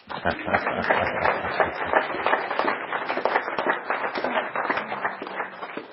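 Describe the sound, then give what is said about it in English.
A crowd applauds steadily to conclude Act One of a session: a dense, rapid patter of many hands clapping at an even, fairly loud level throughout, with no pause or voices. “And so we conclude Act One with applause.”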